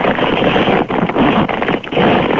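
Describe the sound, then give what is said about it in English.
A long, steady rasping zipper being drawn along a padded surfboard travel bag as someone zips themselves up inside it, broken by a few brief pauses, loud and muffled, with no voices. “All right, well, let's hear you zip up in this bag.”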